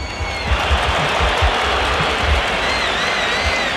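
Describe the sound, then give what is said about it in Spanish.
A large crowd at a football match applauds a player steadily and loudly, a dense wash of clapping filling the space, with deep rumbles and faint whistles mixed in. No one speaks over it. “Ahora el del agua, a ver, escuchemos el aplausómetro, ¿ah?”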